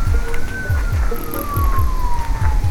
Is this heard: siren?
yes